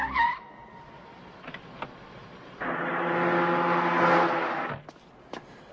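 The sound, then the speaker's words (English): A car brakes hard, its tires letting out a loud, sustained squeal for about two seconds as it skids to a stop, with brief clunks and a quiet engine before and after. “Stop the car and let me out.”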